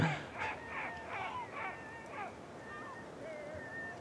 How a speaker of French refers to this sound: Et là on se fait survoler par des goélands marins qui crient au-dessus de nous.